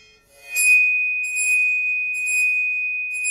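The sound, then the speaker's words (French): A bow vibrates one spot of a metal Chladni plate while fingers rest on the plate. It rings out with a loud, steady, piercing tone, one sustained high pitch with shimmering, scratchy overtones that swell in waves as the bow strokes continue. “là où aboutit une ligne immobile, évidemment la plaque devra changer puisque je serai moi-même avec l'archet en train de faire vibrer cet endroit de la plaque.”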